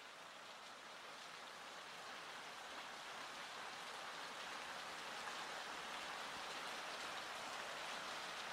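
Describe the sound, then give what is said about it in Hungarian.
Steady rain falls in a dense, even hiss, raindrops pattering continuously, holding a constant loudness throughout with no voices. “Elkezd esni az eső.”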